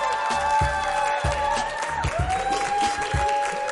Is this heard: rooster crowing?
no